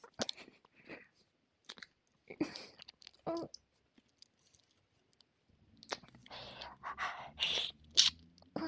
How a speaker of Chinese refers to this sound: 那就让你尝尝被讨厌的人舌吻的感觉